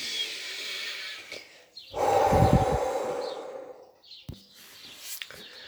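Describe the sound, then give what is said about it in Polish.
A slow, audible deep breath drawn in through the mouth is followed by a longer, louder, airy relaxing exhale that fades out, as part of a repeated breathing exercise. Clear, with no talking. “Głęboki oddech. Rozluźniający wydech. Powtórka.”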